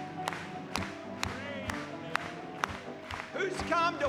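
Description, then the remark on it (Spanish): An audience applauds once more after a hymn, clapping together in a steady, even rhythm over a murmur of crowd voices, with a high cheer or whoop rising near the end. “¿Podemos aplaudirle una vez más?”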